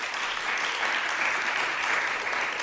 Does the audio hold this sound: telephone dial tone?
no